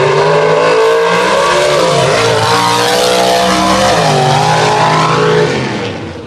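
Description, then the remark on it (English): Roaring drag race car engines at full throttle, a loud sustained howl with rising and shifting pitch as the cars accelerate hard down the track, fading slightly at the end. No talking. “This is going to be a big drag race going on.”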